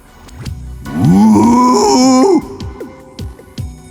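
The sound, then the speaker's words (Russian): A voice imitates a strange trumpet-like horn blast, a story character, Senka, letting out a mysterious trumpet-like sound at night: one loud, droning, nasal tone lasting over a second, bending in pitch and then cutting off. Quieter, scattered sounds come before and after it. “Хотел переспросить, но неожиданно для себя издал загадочный трубный звук, будто любимую трубу в глотку вставили, а потом завили винтом на манер валторны.”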